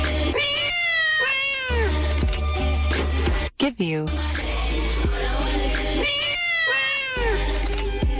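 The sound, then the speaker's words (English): Loud cat meows are edited into a song's beat, landing in a repeating rhythmic pattern over a steady bass line, with a brief sung vocal phrase in the middle. “All I want to do is give you a bunch of cats and give you money.”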